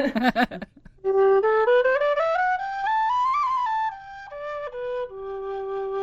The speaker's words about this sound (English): So that's a medium-sized whistle.